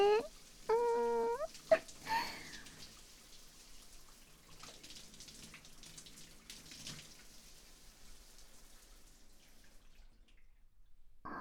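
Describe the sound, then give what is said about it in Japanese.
Water from a tap splashes and trickles steadily as a person's back and body are rinsed off, with scattered drips tapering off toward the end; a brief voice sounds at the very start. “お体きれいに洗い流していきますね。”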